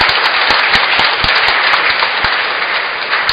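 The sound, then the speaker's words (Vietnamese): A large parish audience applauds loudly and steadily on New Year's Day 2020 to congratulate one another. A dense wash of many hands clapping, with a few sharper individual claps standing out, is sustained for several seconds without talking. “Trước tiên, trong ngày đầu năm mới 2020, chúng ta hãy chúc mừng nhau bằng một tràng vỗ tay thật lớn trong ngày đầu năm.”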